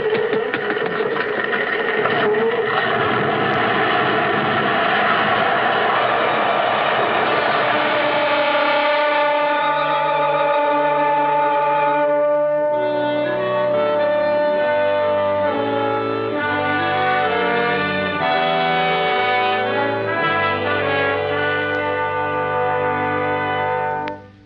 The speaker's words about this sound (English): Holmes played that note on the bagpipes until the house crashed in upon itself.